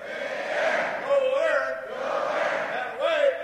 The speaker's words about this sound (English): But what he lacks in agility, the 75-year-old more than makes up for in enthusiasm. His Attaway cheers, as in Attaway to go, are legendary.